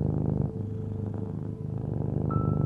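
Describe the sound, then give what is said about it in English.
A cat purrs loudly, a steady rumbling drone with a rhythmic pulse as it breathes in and out, with no talking over it. “And with his little claws, he'd knead my chest and he would purr like a jet engine.”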